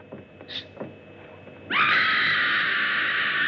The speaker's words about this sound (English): That was a scream.